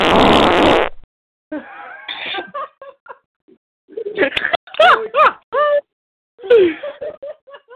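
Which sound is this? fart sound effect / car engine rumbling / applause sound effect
fart sound effect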